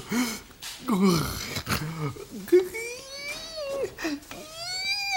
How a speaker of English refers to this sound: Stop breathing so heavy.